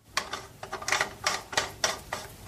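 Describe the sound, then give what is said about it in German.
A water tap being screwed back together, with a series of short metallic clicks and scraping turns in an uneven rhythm, moderately loud, and no voices. “Nachdem die Dichtung noch einigermaßen glatt ist, keine Kalkablagerungen hat und auch keine Rille oder Wulst, dann schraube ich das Ganze wieder zu.”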